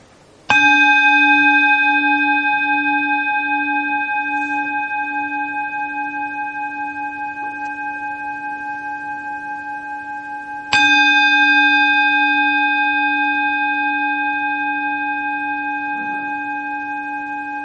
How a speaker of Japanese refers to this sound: はい、ですね、私の会はですね、いつも鐘を鳴らすところから始まるんですよ。で今からね、私鐘を3回鳴らしますので、ちょっと目をつぶられて、ただとにかく鐘の音に注意を向けてください、ね、そこから始めましょう。